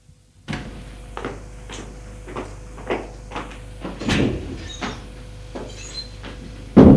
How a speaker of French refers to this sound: Il a entendu des pas, une porte qui s'est ouverte. Des petits bruits dans la cuisine.